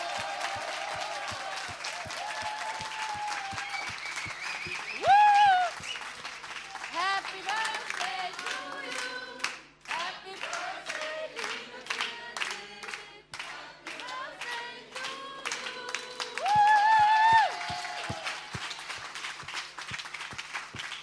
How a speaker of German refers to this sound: Und wir stehen jetzt nochmal auf. Applaus für dich,